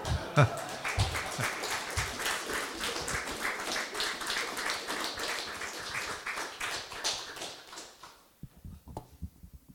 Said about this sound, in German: Naja, der Applaus war ja sehr spärlich.